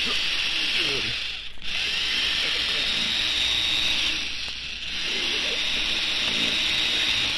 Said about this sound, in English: Hey, you think I've drilled into this vault deep enough now, Mr. Beecher? Yes, I think so, Laddie. Looks good. How deep is the hole?